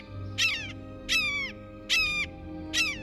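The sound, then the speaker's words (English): A blue jay imitates a red-shouldered hawk, giving four loud, harsh, slightly descending screams evenly spaced about every three quarters of a second, with a low steady hum beneath. “Though they don't have the same reputation for mimicry as mockingbirds and thrashers, blue jays have an unnerving habit of impersonating raptors, especially red-shouldered hawks.”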